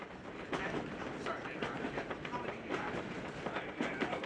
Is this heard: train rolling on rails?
yes